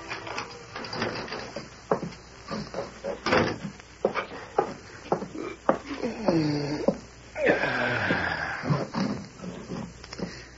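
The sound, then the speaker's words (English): The front door of Corey Meade's boarding house opens with a long, wavering creak of its hinges as he enters, surrounded by a run of sharp clicks, knocks and thumps from the latch and footsteps, moderately loud with no talking. “And it was less than 2 hours later that Corey Meade entered the front door of his boarding house.”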